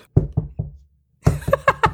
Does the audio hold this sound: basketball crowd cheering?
no